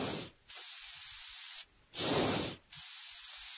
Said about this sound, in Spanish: De hecho, vamos a explicar cómo funciona un frigorífico con dos sonidos. El primero es este. ¿Qué es eso? ¿Un spray? Sí. Y el segundo es... ¿Esto es una bomba de hinchar? Eso es. Y ahora, si combinamos los dos en un ciclo sin fin, tenemos...